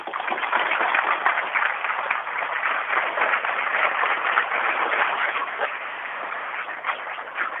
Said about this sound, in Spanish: Son personas que significan mucho para nosotros y yo creo que se merecen un caluroso aplauso.